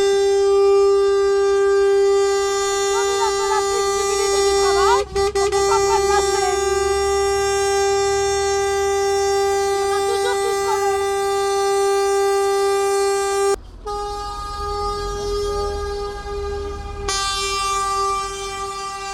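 A loud, sustained horn blares almost continuously at a heavy truck blocking a roundabout in Fougères, steady and harmonic like a truck air horn, with brief breaks and a second horn joining near the end, over low traffic rumble.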